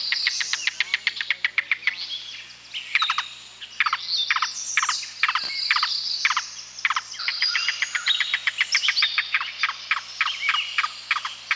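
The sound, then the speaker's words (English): A yellow-billed cuckoo gives its long, guttural call: a rapid run of hollow, knocking notes that stutters, pauses and restarts, loud, with no voices. “The yellow-billed cuckoo, which is often called the rain crow because it calls just before and during rainstorms, has a long guttural call.”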